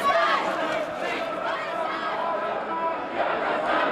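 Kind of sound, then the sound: crowd, demonstrators chanting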